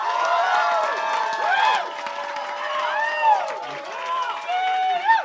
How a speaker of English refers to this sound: And the other thing you always should be doing, and you will do a lot, is cheering and clapping. So I want to get your best cheering and clapping practice. Go now.